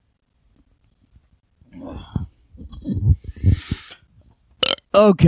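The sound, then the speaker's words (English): A long, croaking burp rumbles, stretching over a couple of seconds, followed by a brief loud spoken word. “There's the burp. I always burp on this show.”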